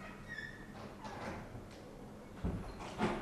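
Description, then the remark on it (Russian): A door squeaks briefly as it slides, then shuts with two soft thuds, with no one speaking. “У нас синтез, закройте дверь, пожалуйста.”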